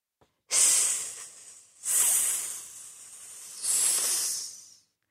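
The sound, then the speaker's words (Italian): Wind hissing through trees and bushes in three long, breathy, high-pitched gusts, each swelling quickly and then tapering off, with short lulls between them and no talking. “Sibila il vento.”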